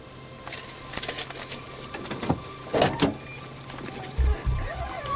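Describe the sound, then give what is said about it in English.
A car's power window whirs down with a steady motor hum, broken by a few clicks and thumps, with faint low rumble underneath, as the driver rolls down his window for a police officer. “rolls down his window.”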